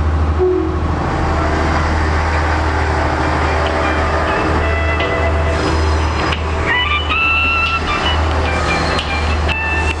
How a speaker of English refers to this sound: Adelaide will depart from platform 1, stopping all stations.